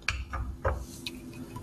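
A bottle just taken from the fridge, with some stirred-up sediment, being opened: four short clicks and clinks of cap and glass, spaced unevenly over a second and a half against a quiet low hum, with no voices.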